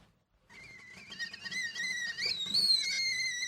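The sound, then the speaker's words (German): A tea kettle whistles shrilly in a kitchen at 6:45 on a Tuesday morning after a brief silence, its piercing, slightly wavering tone swelling louder and holding steady, with no one speaking. “Wie ein zweiter Wecker jaulte das Pfeifen der Teekanne am Dienstagmorgen um 6.45 Uhr durch die Küche”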